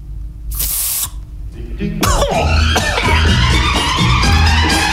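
A single short hiss of Ambiance Orange Blossom and Pomegranate aerosol air freshener sprayed in a studio, into the microphone, lasting about half a second, followed by a loud burst of busy, mixed noise.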